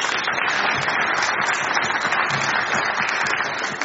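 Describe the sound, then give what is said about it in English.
Sustained applause from an audience for a volunteer, a dense steady wash of many hands clapping at once, fairly loud throughout, with no voices standing out. “Can you give him a round of applause, please?”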